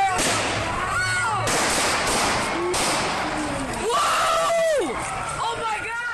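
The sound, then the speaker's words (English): Five sharp gunshots crack out a second or so apart, loud, amid frantic shouting and overlapping voices as LAPD officers tackle a homeless man on a sidewalk in Los Angeles. “You can also hear what sounds like a taser in the background, then the gunshots.”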